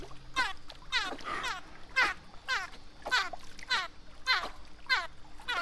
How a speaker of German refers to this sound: Delfine machen eigentlich schöne Geräusche, obwohl es mehr so fiepig klingt.